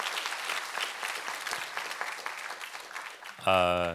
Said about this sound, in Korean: 우리 안내팀 한번 우리 격려 박수 한번 부탁합니다.